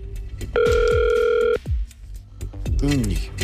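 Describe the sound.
A loud telephone ringing tone sounds once for about a second over a phone line as a Catalunya Ràdio show dials a listener who does not answer, with muffled voices and bustle before and after it.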